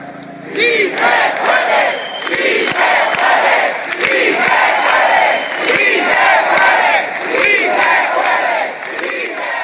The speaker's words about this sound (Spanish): la celebración se situó en la madrileña Puerta del Sol, el mismo escenario que hace 2 años vio nacer a los indignados, donde decenas de miles de personas protestaron con un grito mudo, roto al cabo de unos 2 minutos con un clamor: «Sí se puede».